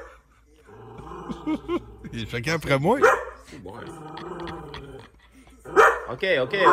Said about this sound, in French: il m'a envoyé une vidéo de son chien Gustave qui jappe en regardant la télé